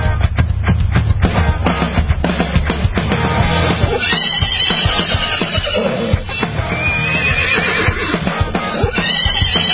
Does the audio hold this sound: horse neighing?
yes